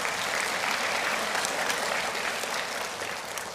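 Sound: audience applause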